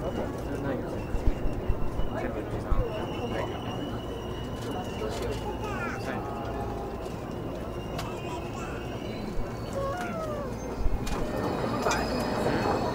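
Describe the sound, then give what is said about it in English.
A busy station platform with a steady wash of crowd chatter and footsteps, as a train rolls in and slows with faint high-pitched brake squeals and clanks. “Okay, we're out on the platform now.”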